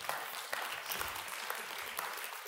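An audience at a Christmas sermon claps steadily, a dense wash of many hands with sharp individual claps popping through, sustained at an even loudness for a couple of seconds without any talking.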